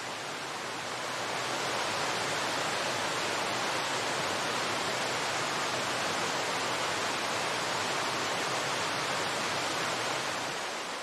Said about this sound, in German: Genieße das erfrischende Nass des Wasserfalls auf deiner Haut. Und nun verabschiede dich allmählich vom Wasserfall Tamul, vom erhabenen Sänger des Wassers.